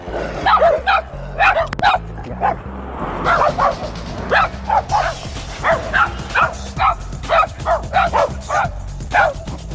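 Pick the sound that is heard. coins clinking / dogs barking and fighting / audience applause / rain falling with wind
dogs barking and fighting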